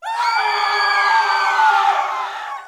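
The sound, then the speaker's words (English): A loud, sustained human scream lasting a few seconds, shrill and strained with a rough, piercing edge, starting abruptly and fading slightly at the end. No talking. “Screams are one of the most fundamental of human noises, something we're all programmed to do right from the second we're born, no matter what culture we're part of.”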